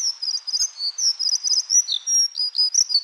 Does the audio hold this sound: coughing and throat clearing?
no